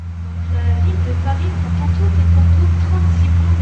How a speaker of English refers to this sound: An open-topped tourist boat plies the River Seine. The shutterbug visitors in shorts are almost all European or Asian.